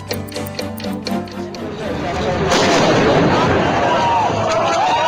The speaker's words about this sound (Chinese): 我们现在听到的是2004年发生在伊朗的一件爆炸案现场的实况录音。当时有人发现可疑的包裹，径自动手拆开，旁边还有许多人围观，没想到却发生了意外。威力强大的爆炸造成人员伤亡和现场凄厉的哀嚎声，让人触目惊心。